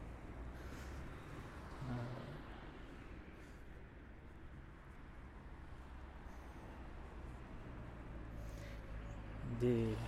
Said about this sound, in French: Donc j'attends qu'une voiture quitte ce fameux boulanger pour traverser.